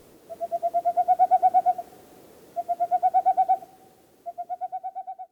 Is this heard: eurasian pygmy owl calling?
yes